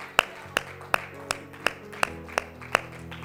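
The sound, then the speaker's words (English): A church audience claps hands in unison as a hand clap of praise to the Lord during a Father's Day worship service, a steady beat of eight sharp claps roughly a third of a second apart, over a faint sustained musical hum with no voices. “Let's worship the Lord with a hand clap of praise today.”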